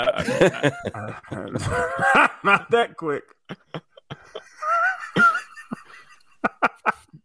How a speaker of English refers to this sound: Not like he was moving a piano upstairs the way that he was breathing.